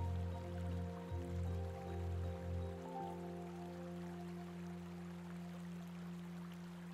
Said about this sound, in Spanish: Al apartar una rama en tu camino, observas que hay un precioso manantial de agua pura, potable y cristalina.